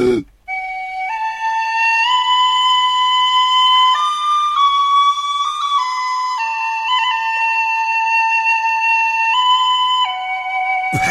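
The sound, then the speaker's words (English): A tin whistle plays a slow, simple melody of sustained, pure notes that step up and down, loud, with no talking for about ten seconds. “Do you want to hear my song on the tin whistle? I've got my tin whistle here.”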